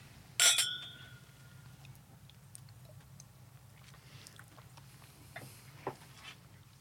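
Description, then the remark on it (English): A single bright clink of glasses of rye whiskey touching in a toast near the start, ringing briefly before fading, followed by quiet with a low hum and a few faint clicks. “All right. Cheers. Cheers. Cheers.”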